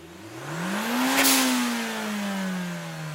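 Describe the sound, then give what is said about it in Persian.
A race car engine revs up to a loud peak and then eases off in pitch as it roars past, one continuous sweep with no talking. “موقعی که بیکنم راننده ماشین مسابقه میشم. من همه مسابقه ها رو میبرم.”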